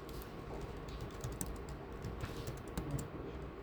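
Steady keyboard typing of the search phrase "congestive heart failure" into an advanced search, a quick run of soft key clicks with irregular rhythm and a few sharper taps, over a faint low background hum and no voices.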